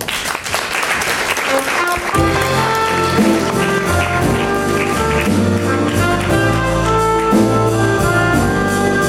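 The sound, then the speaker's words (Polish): A crowd at a journalism awards ceremony in Poland claps loudly and steadily for the prize winners. After a couple of seconds, upbeat music with a strong bass line swells in over the applause, and the clapping keeps going underneath. “Brawa!”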